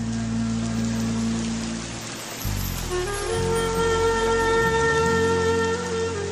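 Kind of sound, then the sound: nature, rain falling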